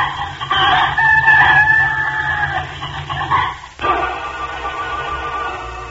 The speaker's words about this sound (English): But just then, the little red hen woke up and saw the fox and began to make enough noises for 100 hens.